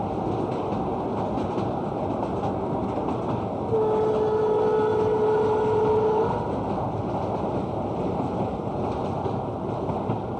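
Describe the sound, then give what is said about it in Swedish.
Steady rumbling roar inside a moving FV-eta railcar, with wheels clacking over rail joints throughout; a sustained tonal whine rises above the rumble midway and then fades. No one speaks. “Vi lyssnar lite på hur du lät inifrån FV-etan här.”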